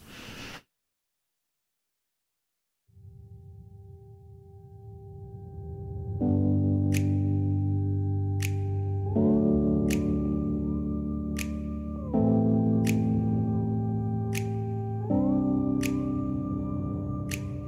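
A recorded song's instrumental intro: after a short pause, a low drone swells into loud sustained chords that shift every few seconds, with steady, crisp high percussive ticks keeping time. No voices.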